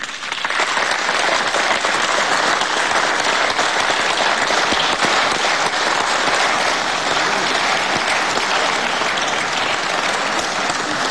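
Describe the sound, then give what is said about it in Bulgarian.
Sustained applause from a large audience after Bulgarian Prime Minister Boyko Borisov's report on his country's presidency, a dense, steady wash of clapping that stays loud and even for about eleven seconds with no voices over it. “Мисля, че аплодисментите отразяват отношението ни към вашето председателство.”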